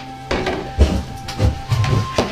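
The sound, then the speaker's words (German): A bathroom door is slammed loudly shut behind someone with a heavy wooden thud, followed by several more dull knocks and rattles at uneven intervals over a low steady hum. No one speaks. “Warte, knall die Tür hinter mir laut zu.”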